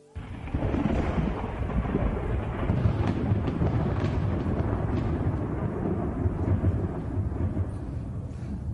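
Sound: thunder rumbling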